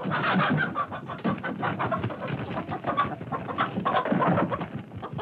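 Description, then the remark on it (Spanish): A rooster, having dived down from a branch, flaps, kicks and clucks frantically on the ground, loud, with a steady stream of agitated wingbeats and squawks filling the whole stretch without pause. “Cerró los ojos, se lanzó en picada desde la rama y comenzó a patalear en el suelo.”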